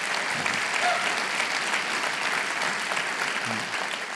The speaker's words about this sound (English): Now, give me an applause. How many of you believe that God's word is true? Give me an applause if you believe it.